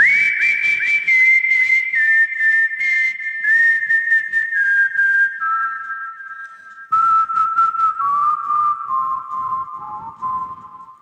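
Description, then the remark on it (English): Someone whistles a slow, sustained melody, long clear notes stepping gradually lower, with a brief break partway through before the tune resumes over a faint rhythmic backing. “It's like everyone can do a whistle.”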